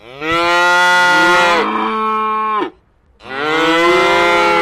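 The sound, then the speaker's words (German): A calf moos loudly and insistently, indignant at wanting more milk: one long, drawn-out bawl, a brief pause, then another loud moo. No one is talking. “Und dementsprechend wurden er und seine Kollegen auch mit dem ein oder anderen empörten Muhn bedacht.”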